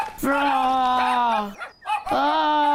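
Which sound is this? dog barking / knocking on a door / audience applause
dog barking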